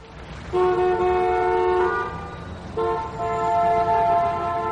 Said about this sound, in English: The traffic in Calais was quite bad.